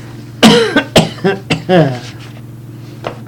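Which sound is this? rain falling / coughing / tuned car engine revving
coughing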